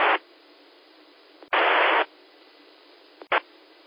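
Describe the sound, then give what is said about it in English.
A weak amateur radio station trying to check into the Blue Ridge 2-meter net, lost in steady, band-limited hiss, broken by a few louder bursts of static and sharp clicks, with no clear voice rising above the noise. “Okay, that last station that tried, you're way down in the white noise. I could hear that there was a voice in there, but that's all I could tell is that there was a voice.”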